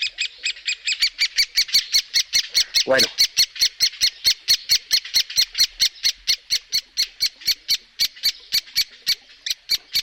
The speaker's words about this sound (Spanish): Vamos a ver, estamos viendo un sonido de alarma de un pájaro carpintero. ¿Mm? De un pájaro carpintero, ese sonido de alarma, ¿no?